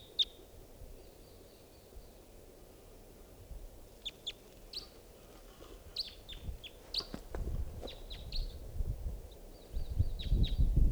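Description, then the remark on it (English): A lone wild bird in flight calls in a series of short, high-pitched chirps, scattered irregularly through the second half over a low, rumbling background that grows louder toward the end. “Pointed in the direction of that wild bird.”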